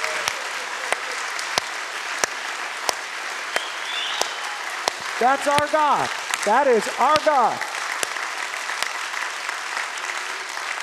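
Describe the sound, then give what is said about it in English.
An audience applauds God steadily, a broad wash of clapping with scattered sharp individual claps, while a voice speaks briefly over it in a rising, emphatic tone. “someday to be with a group of people who are so excited about God, when the Bible says, on your feet now, applaud God, they actually did it.”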